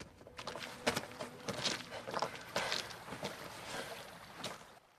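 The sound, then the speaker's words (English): Footsteps descend stone steps to the edge of the River Thames at night, about half a dozen crisp, hard scuffs at an uneven pace over a steady wash of background noise, with no voices. “He heads down some steps to the edge of the river.”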